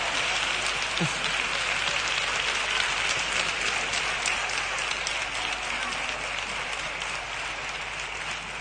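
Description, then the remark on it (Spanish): A crowd applauds steadily for several seconds, a dense, continuous wash of many hands clapping at once, fairly loud and sustained without pause. “Podéis aplaudir y esas cosas, ¿eh?”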